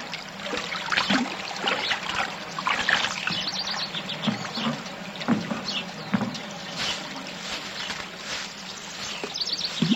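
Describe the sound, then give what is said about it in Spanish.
Spring water in a forest, coming down from the mountains and welling up from inside the ground, trickles steadily in a continuous bubbling flow with small splashes, while birds chirp and call in the background throughout. No one speaks. “Porque baja de lo alto de las montañas, alimentando a las plantas, a los animales. Se filtra por piedras y sale de adentro de la tierra muy pura y rica en minerales.”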